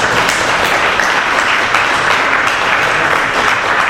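A crowd claps steadily and loudly for several seconds, a dense wash of many hands with no pauses, no voices heard above it.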